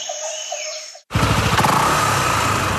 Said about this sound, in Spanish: Nueva Honda PCX160 ABS, una motocicleta con tecnología japonesa de última generación que llega al país para imponer un nuevo movimiento en la ciudad. Con frenos ABS, luces LED y el respaldo de Honda, la marca número uno del mundo.